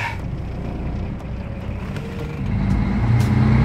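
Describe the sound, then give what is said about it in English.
A truck drives along the road with a steady, heavy low rumble of engine and tyre noise, swelling louder in the final second. No voices. “My parents always warned me about not getting into trucks with strangers, but I'm still alive, and here we go for day two.”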